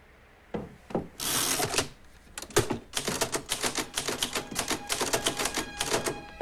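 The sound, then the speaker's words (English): Typewriter keys clack in a quick, uneven run of sharp strikes as a man at a desk types, with a brief scraping rasp early on, then steady mechanical tapping continuing to the end. No one speaks. “He looks at his typewriter with a distasteful expression.”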